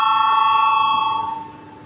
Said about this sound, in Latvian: Lūdzu zvanu, balsosim par 26. Satiksmes ministra Linkaita priekšlikumu. Lūdzu balsosim.